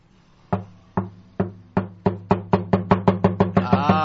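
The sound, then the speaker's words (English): Knocking on a door that starts slow and steadily accelerates, the raps coming closer and closer together until they blur into a rapid roll. Clear, with no voices. “the one joke I know is, how do you know a drummer's at your door?”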